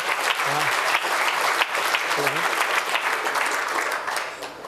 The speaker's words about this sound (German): Tosender, donnernder Applaus, bitte!